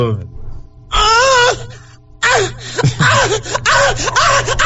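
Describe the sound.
A voice acts out, on request, a woman moaning in pain from a cramp: loud, wavering, high-pitched wails in two bursts, the second longer with gasping breaks and strained cries.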